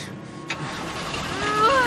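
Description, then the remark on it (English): A car engine is started by someone behind the wheel: it turns over and catches, its rumble building into a rising rev toward the end, fairly loud over steady background noise. “get behind the wheel and start the engine.”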